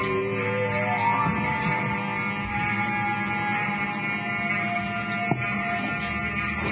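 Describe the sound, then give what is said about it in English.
A building fire alarm goes off and blares continuously as everybody exits the building, a harsh buzzing tone with rich overtones holding steady at a fairly loud level, with no voices over it. “As the phone rings with your producer, Tom Danhauser, to put me on, the fire alarm goes off.”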